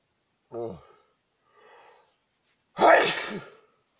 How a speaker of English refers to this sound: Oh, my nose is just running like crazy. And sneezing. Oh, going through Kleenex like crazy at work. And oh, God. And just sneezing